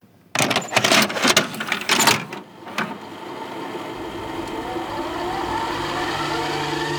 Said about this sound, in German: Wir legen die Kassette Nummer 6 ein. Und los geht's.